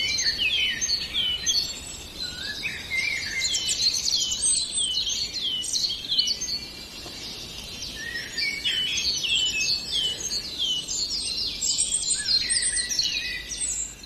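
A Eurasian blackbird's fluting song rises among a dense, continuous chorus of chirping and warbling birds, steady throughout, with no voices.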